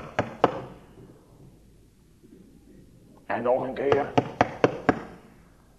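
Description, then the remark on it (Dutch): Sharp knocks on the door of a small textile shop in a town at 3 in the night: two raps, a pause, then four more quick knocks in a row, loud, with a voice speaking between them. “En daar klinkt het op de deur van het winkeltje.”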